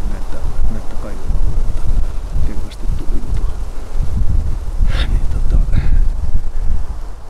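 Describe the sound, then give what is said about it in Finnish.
Strong wind blows outdoors during a bird-ringing session, buffeting the microphone with a loud, steady low rumble that gusts throughout, while a few duck quacks break through faintly toward the end. “Oi kun tässä tuulee.”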